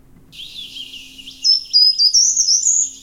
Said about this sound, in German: Genau, der erste Ton ist höher, es geht dann so runter. Der Vorteil ist bei diesem Vogel übrigens, dass er eben das auch echt lange am Stück macht und dann kann man sich da so ein bisschen reinhören.